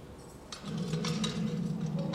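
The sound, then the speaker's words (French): Keys clink and jingle in a prison in a handful of light, bright metallic taps at uneven intervals, set over a steady low hum that rises partway through. No one speaks. “Les cris, la résonance métallique, le cliquetis des clés.”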